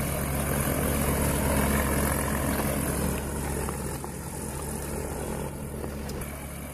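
A small propeller airplane, flown by Jiang Deqiu and Shen Zongli, taxis toward the runway and takes off at an airport, its engine droning steadily and loudly, a rough low hum with a slight dip in level partway through, with no voices.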